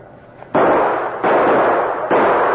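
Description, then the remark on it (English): Three loud gunshots fire in steady succession, each a sharp crack followed by a harsh, lingering roar of noise that carries into the next shot, as a lock on garage doors is shot off. No one speaks. “Shoot the lock off and let's bust in.”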